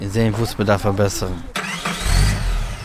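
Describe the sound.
A man speaks briefly, then a car engine cranks and catches, settling into a low, steady rumble that swells for a moment before easing back; the car is setting off for a film set in Putte, the Netherlands.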